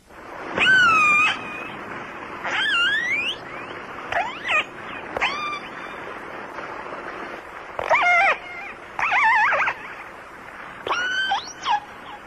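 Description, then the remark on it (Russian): Killer whale calls picked up underwater by a hydrophone: a series of about seven shrill, squealing, pitch-bending cries over a steady hiss, each lasting under a second, with no one speaking. “А вот услышанный подводным микрофоном голос кита касатки.”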